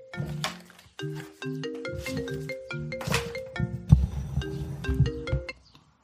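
signal or alarm, phone ringing

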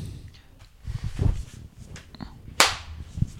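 human body sound, single hand clap

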